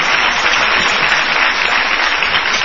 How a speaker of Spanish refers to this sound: En estos momentos se están aplaudiendo a Gillespie. Claro, yo pensé que aplaudía lo que decíamos.